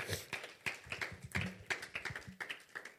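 audience clapping

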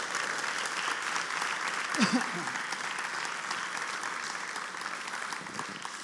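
audience applause

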